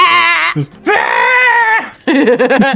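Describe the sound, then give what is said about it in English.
A human voice mimics goat screams in three loud bursts: long wavering, bleating cries with a shaky tremolo, separated by brief pauses. “I like goat screams.”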